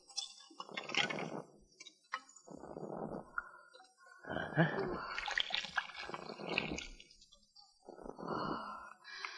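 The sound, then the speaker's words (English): After a screw is loosened, the top liquid of a bomb in a green jade vase is poured off in several splashing, gurgling bursts separated by short pauses, moderately loud, with no voices. “Loosen the screw, then pour off the top liquid.”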